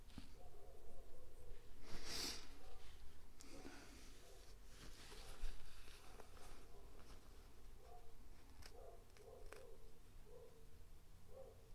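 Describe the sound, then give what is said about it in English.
Someone blows their nose close to the mic with a sharp, rushing burst, followed by a few quieter sniffs and snorts over a soft background hiss. No one speaks. “Sorry, I realize I have the microphone on me, so you guys got like an ASMR of me blowing my nose or whatever.”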